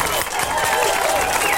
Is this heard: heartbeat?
no